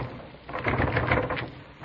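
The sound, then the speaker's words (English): A locked door that the wind has blown shut is tugged and rattled: a burst of scraping, clattering noise lasting about a second with uneven pulses of effort, fairly quiet, with no voices over it. “Here, let me try that door.”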